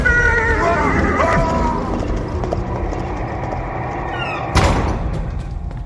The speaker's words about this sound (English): But as Will instinctively threw up one arm in self-defense, the black stallion screamed, fell back, and rider and horse disappeared into the dark.